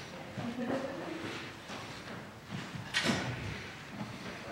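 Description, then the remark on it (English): A door is pushed shut partway through, giving one sharp knock over quiet room noise, with some faint indistinct voices in the background. “You shut the door, man.”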